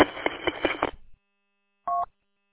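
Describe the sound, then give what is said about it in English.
A car's seatbelt warning chime: a rapid run of bright electronic pings for about a second, then a short pause and one steady, mid-pitched beep, going off while the car is driven without the seatbelt fastened. No one speaks. “People always crab because they hear my seatbelt chime going off while I'm driving.”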